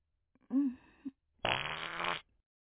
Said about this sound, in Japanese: ちょっとお腹すっきりした。 変にごまかして気を使わせちゃうよりは、普通におならしちゃう方がいいわよね。